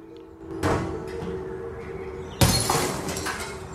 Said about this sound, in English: Why did you smash up your telly?